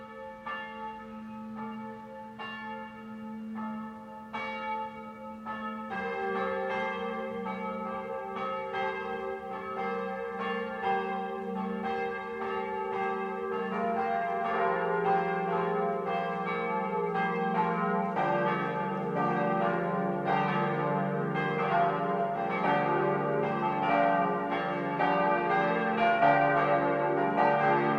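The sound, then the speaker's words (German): The bells of the Evangelical Lutheran St. Veitskirche in Leipheim, Swabia, Germany, ring out the noon peal at 12 o'clock, several bells overlapping in a dense, continuous clangour with rich ringing overtones, growing fuller and louder as more bells join in. No one speaks. “Das Mittagsläuten kommt heute von der evangelisch-lutherischen St. Veitskirche im schwäbischen Leipheim.”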